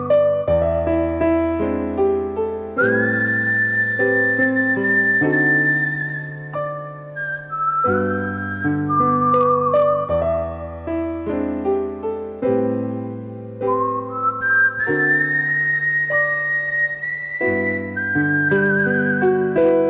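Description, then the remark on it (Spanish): A clear, prominent whistled melody of an American song that was popular in 1940s and 1950s Cuba glides over a full orchestral accompaniment, the tune sustained and lyrical with smooth slides between notes, and no talking. “Amigos, es … silbando una preciosa canción norteamericana que fue muy popular en la Cuba de los años 40 y 50 y que todavía se sigue cantando y grabando en Estados Unidos.”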